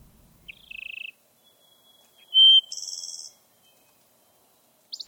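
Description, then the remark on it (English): A wood thrush sings alone in a quiet setting: a short warbled phrase, a brief pure whistle, then a higher fluty, buzzy trill, clear, with another phrase starting at the end. “I think that's what the song of the wood thrush stirred in me.”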